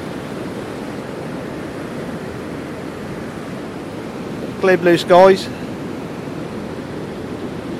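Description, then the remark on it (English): A steady, full roar of surf on a 3-mile-long beach, with the tide coming in and a mountain behind, washes through the whole recording, fairly loud, with a person speaking briefly over it near the middle. “Got the mountain behind us and the ocean in front of me.”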